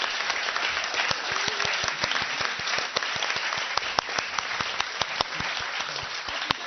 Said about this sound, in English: Get them to stand up. If you don't want to come up to the stage, that's okay, but at least stand up so we can give you a round of applause.